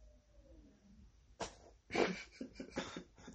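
A short fart breaks out amid sharp bursts of laughter, followed by a run of rhythmic, breathy laughing pulses.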